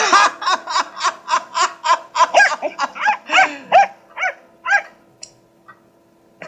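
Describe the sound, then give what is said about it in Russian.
A cocker spaniel, brought by a visitor to Mr. Holmes, barks in a quick, steady series of about a dozen sharp barks that taper off and grow fainter toward the end, with no voices. “Вчера он забыл палку, сегодня пришел с собакой.”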